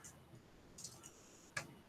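A few soft, scattered keyboard clicks tap out irregularly against a quiet background, with the last keystroke slightly sharper than the others and no one speaking.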